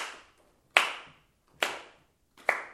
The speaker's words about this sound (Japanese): 叩きながら歌ってみて、はい、もう楽譜持たなくて大丈夫。手拍子で。